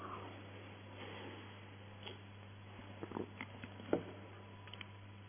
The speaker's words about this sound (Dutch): Ik neem even een slokje water daarop.